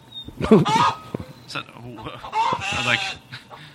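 Loud chicken clucking in quick, irregular bursts of squawky calls, with a few short pauses between them over a few seconds.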